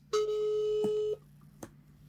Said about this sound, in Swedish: Men i alla fall, jag tänkte att istället för att vi ska spekulera kring det, så ringer vi upp vår gemensamma vän